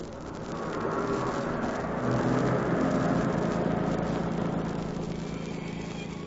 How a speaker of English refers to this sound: Is that a car coming behind us? Yes, and it's rolling right along. Sounds it.